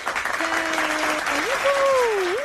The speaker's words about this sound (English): God, that was bad. No, that's good. A bad air horn.